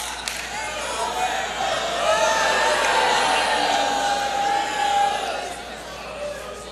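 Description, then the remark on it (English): A large crowd cheers and shouts continuously for several seconds, a loud, dense roar of voices with scattered whoops that swells in the middle and then eases slightly. “What a crowd you are.”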